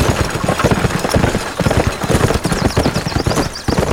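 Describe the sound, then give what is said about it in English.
Several horses clip-clop steadily together as riders pull out, a dense, rapid patter of hooves mixed with the rattle and rumble of wheeled buggies, loud throughout with no one speaking. “The Sutton brood and their hired guns got on their horses and into their buggies and pulled out.”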